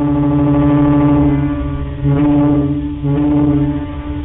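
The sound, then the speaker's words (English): Deep ferry horns blast in long, overlapping tones, loud and steady, with the sound briefly swelling and shifting as new blasts join in. No one speaks. “It was a slow motion symphony of honks and blasts.”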